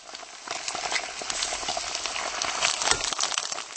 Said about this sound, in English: What you can hear now is the sound of sizzling fat coming out from one of many kiosks selling grilled sausages here in the centre of Prague.